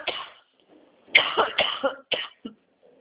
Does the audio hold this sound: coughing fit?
yes